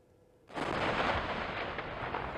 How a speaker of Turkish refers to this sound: Evet, bu da bir patlama. Anormal bir toz yoğunluğu var. İşte bu toz yoğunluğu, bu Akbelen şantiyesinde çıkan toz yoğunluğu.